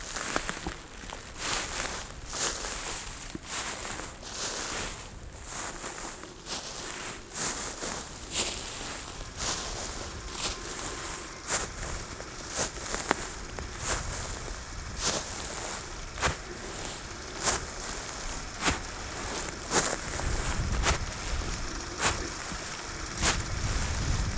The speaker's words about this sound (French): Ces herbes sèches, elles crépitent à vos oreilles.